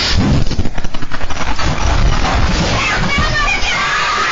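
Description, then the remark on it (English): A loud explosion at a store, with concrete and paver debris flying and crashing down: a rough, pulsing rumble for the first second or so, then a sustained wash of crashing, clattering noise, somewhat muffled. Four cars were damaged. “It was a Hollywood quality explosion.”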